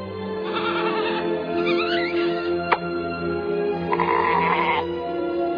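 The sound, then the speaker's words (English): A goat bleats in several drawn-out, wavering cries, fairly loud, with a brief sharp click partway through and a low steady hum underneath. “Look for an actual goat, specifically Black Philip in The Witch. Now that is a scary goat.”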